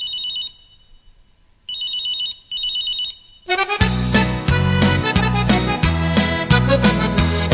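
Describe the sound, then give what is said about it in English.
A shrill electronic mobile phone ringtone chimes in three short bursts, clear, before a full band bursts in and plays loudly over the rest. “Oh, my girlfriend has a mobile phone. Now we can never have a minute alone.”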